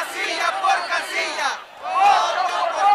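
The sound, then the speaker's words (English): A large crowd of López Obrador supporters chants loudly in unison while blocking Mexico City's main streets, demanding a recount of each ballot box and vote: two rhythmic shouted phrases separated by a brief pause, many voices blending into a dense roar of street protest. “Tens of thousands of supporters demanded a recount of each ballot box and vote, like this crowd chanted while blocking Mexico City's main streets for weeks, bringing the heart of the capital to a standstill until López Obrador finally conceded.”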